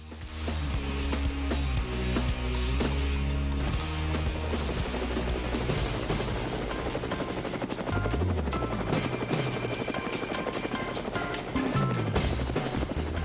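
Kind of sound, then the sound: vehicle, helicopter flying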